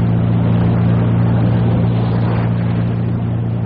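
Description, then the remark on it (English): A powerful boat engine accelerates to full speed, roaring at high revs in a loud, steady droning hum with a deep throbbing tone and rushing noise, no voices over it. “Now we must really step on it. Panic over. Full speed ahead.”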